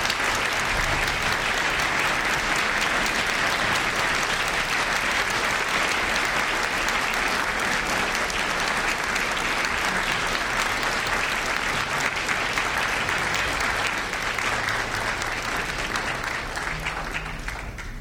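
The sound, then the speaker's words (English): Sustained applause from a large audience at a Cupertino Symphonic Band concert, honoring veterans and active duty personnel, fills the whole span, a dense, steady wash of clapping at constant loudness with no voices standing out. “May we have a round of applause, please.”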